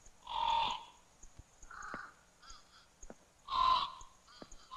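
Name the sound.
birds calling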